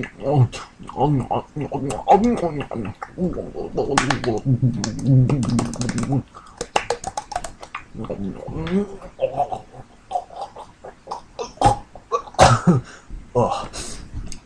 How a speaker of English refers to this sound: I think I just coughed up some blood.